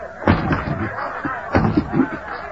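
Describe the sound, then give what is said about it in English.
A man with bound hands pounds on window glass in a series of heavy, irregular thumps, some louder than others, with a murky rumbling noise filling the gaps between blows. “Fairchild turned his back to the window and with his bound hands beat on the glass.”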